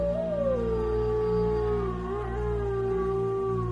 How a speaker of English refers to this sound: In the distance, a pack of wolves raise their muzzles to the sky and howl.